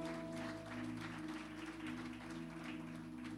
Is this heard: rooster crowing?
no